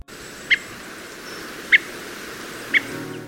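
Three short, sharp calls of a redwing thrush ring out at spaced intervals over a steady low background hiss, each note brief and fairly clear.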